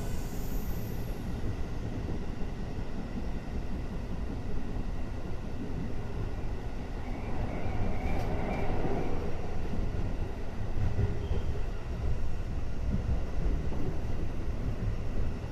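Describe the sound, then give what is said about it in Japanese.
A commuter train, the last up-line train, rumbles steadily along the rails at Kasukabe Station, a continuous low roar with rattling and faint squealing from the wheels, heard from inside the moving car with no voices. “奈良高台行き先上り方面最終電車春日部駅でございます。”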